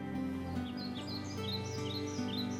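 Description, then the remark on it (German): A bird sings in a forest at night under twinkling stars, in short, repeated chirping phrases above a steady, sustained musical drone, the song clear with no talking. “Und sofort wurde es ein wenig heller, die Sterne funkelten und ein Vogel begann zu singen.”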